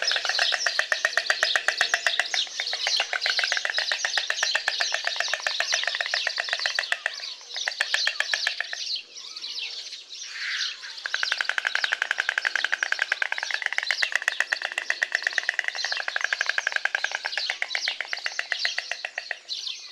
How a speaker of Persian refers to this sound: لکلک ها وقتی که در آشیانه با دیگر روبرو میشن، هر کدوم جداگانه منقار خودشون رو چنان به هم میزنن که صدایی بسیار زیبا و شف برانگیزی تولید میکنه و چنان در منطقه شکورچی میپیچه که آدم احساس میکنه وارد یه دنیای دیگه شده.